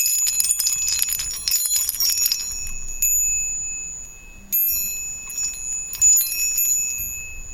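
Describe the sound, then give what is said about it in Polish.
Small decorative bells on a little bird ornament jingle and chime brightly, a dense shimmering burst at first, then a few separate rings with lingering tones. Clear, no one speaking. “Akurat od tego ptaszka, akurat te dzwonki tutaj.”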